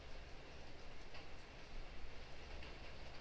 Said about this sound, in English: Just observing your sensations, the sounds of the rain landing on different surfaces.